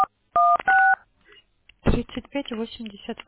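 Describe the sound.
Two loud touch-tone beeps of a phone keypad sound in quick succession, each a steady dual-pitched tone, after a brief click; a moment of quiet follows, then a person starts talking.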